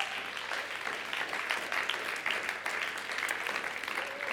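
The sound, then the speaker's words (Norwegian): An audience claps steadily for several seconds in applause for the audience's sound technicians, a dense, sustained wash of many hands with no voices standing out above it. “Jeg kan ikke gi all i dag en skikkelig applaus.”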